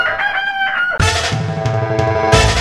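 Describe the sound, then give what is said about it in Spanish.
A rooster crows loudly, a drawn-out, strained call that runs into a dense, noisy swell of sound lasting a couple of seconds. No one speaks. “Yo lo puedo invitar en el momento que usted guste a visitar mi domicilio, y ahí tengo mis gallos.”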